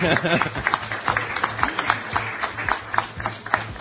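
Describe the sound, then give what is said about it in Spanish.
A small group of people seated at tables and seats claps in a quick, uneven patter of sharp hand claps that carries steadily through the few seconds, with voices murmuring underneath, greeting the members of a Friday discussion panel. “A ver, un aplauso, ¿se escucha el aplauso? Sí.”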